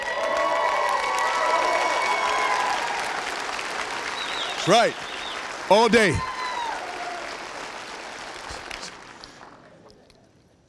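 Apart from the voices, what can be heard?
audience applause and cheering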